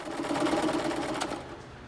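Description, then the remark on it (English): Several machinists' sewing machines on a factory floor whir and clatter together in a steady, rapid, continuous drone with a low humming tone underneath, fairly loud throughout with no voices. “Anna's feet trudge down the length of the factory floor towards the machinists.”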